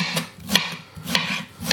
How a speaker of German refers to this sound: habe ein neues Brettchen, hört man, ne? Nicht mehr so leise wie die anderen, aber ist schön.